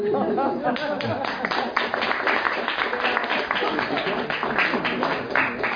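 An audience applauds steadily, a dense wash of many hands clapping that stays full and even for several seconds, with faint murmuring mixed into the crowd noise.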